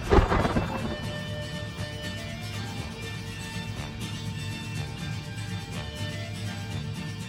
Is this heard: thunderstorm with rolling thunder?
yes